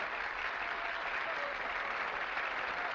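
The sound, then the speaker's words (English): Steady applause from a group at a theater award ceremony where the Sarah Siddons Award is being presented, a dense patter of many hands clapping at an even, moderate level for the whole stretch, with no voices standing out. “Addison claps politely.”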